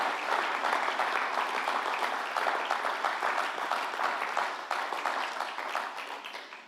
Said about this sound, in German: Hey, wollen wir Jesus die Ehre geben? Wollen wir ihm mal ganz trockenen Applaus? Komm mal, lasst uns Jesus. Danke, Jesus.